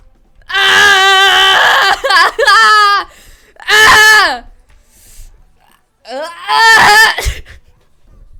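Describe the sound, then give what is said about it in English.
A person screams in pain: a long, wavering, high-pitched cry that breaks up, then two shorter anguished wails separated by brief silences, loud and strained throughout. “I scream in pain.”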